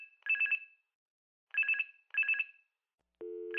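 A telephone rings in three short trilling bursts, clear, with brief pauses between them, followed by a steady lower electronic tone at the end.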